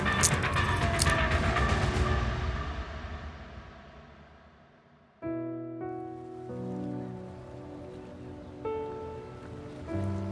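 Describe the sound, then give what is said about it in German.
A broad, rushing wash of waves at a harbour's waterside fills the opening seconds and gradually fades away, then steady melodic music takes over for the rest, with no voices. “ist allein im Hafen geblieben. Sie schlendert mit Pepper am Wasser entlang”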